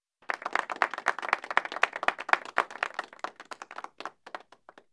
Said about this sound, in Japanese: よくできました。みんな拍手。